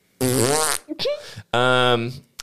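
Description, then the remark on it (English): Loud fart noise sound effect: a long buzzy blast that wobbles in pitch, a brief sputter, then a second long, steady blast, all within a couple of seconds. “Fart noise interjected.”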